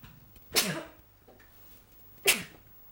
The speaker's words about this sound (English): Oh, I've got a sneeze.